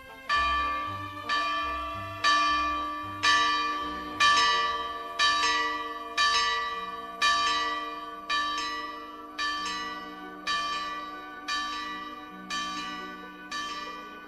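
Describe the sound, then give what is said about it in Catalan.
A large church bell in Girona, in use since 1574, strikes the hours about a dozen times at a steady, unhurried pace, each loud clang ringing out and fading into the next, with no voices. “Ella és l'encarregada de tocar les hores.”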